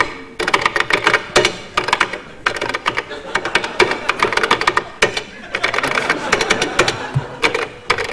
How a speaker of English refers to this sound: will tap out something for you to identify on a different keyboard.